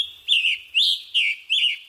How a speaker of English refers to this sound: Head west to the Chicago Birding Trail to savor the songs of the rose-breasted grosbeak. And Scarlet Tanager.